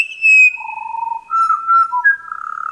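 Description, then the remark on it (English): A pied butcherbird gives its three-note diagnostic call with clear, fluty whistled notes, a high sustained tone answered by a second bird's lower notes, with brief buzzy rattles and flourishes mixed in, loud, no talking. “Here's their three-note diagnostic call, which is much higher than the bird who follows in response, with a couple of rattles and other flourishes.”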